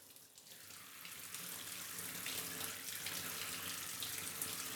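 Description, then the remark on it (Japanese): Water from a shower sprays steadily, a continuous hissing rush that swells slightly after the first second and stays loud, with no voices over it, as the shower rinses all the foam off. “よし、じゃあシャワーで流すから、まだ目はつぶったままでいて。”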